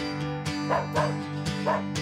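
A dog barks playfully in a quick, steady series of about four short yips and woofs, fairly loud, over a constant low hum.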